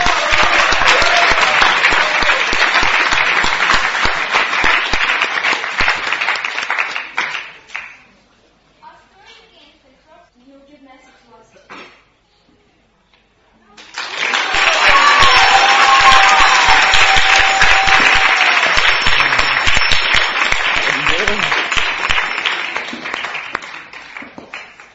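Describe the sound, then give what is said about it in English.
Loud, sustained applause from an audience for a drama troupe, dense crackling clapping that fades out, drops to near silence for several seconds, then swells again into another long burst with some whistles and cheers. “For now, I request you to give a thunderous applause to our drama troupe.”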